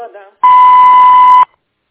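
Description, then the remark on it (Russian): A single loud, steady voicemail beep tone on a phone call forwarded to a voicemail box holds one pitch for about a second, following a brief trace of speech-like sound at the start. “Вы можете оставить сообщение после звукового сигнала.”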